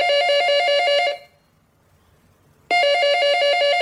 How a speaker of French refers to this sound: 2 heures plus tard, le téléphone sonne chez les Bastouille.